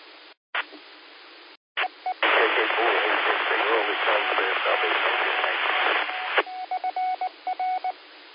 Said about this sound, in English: I had a really light copy on you, and then as soon as you keyed up, the repeater started sending out the Morse code call sign, so it kind of doubled with you.